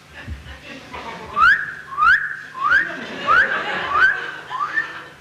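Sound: a person whistling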